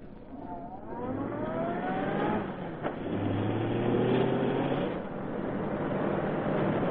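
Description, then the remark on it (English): A cab's engine revs up and accelerates, its pitch climbing, then settles into a steady rumble as it drives into an alley on the left, following another car. No voices are heard. “Drive into that alley on the left, quick.”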